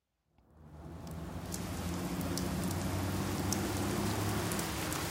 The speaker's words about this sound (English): It's starting to rain.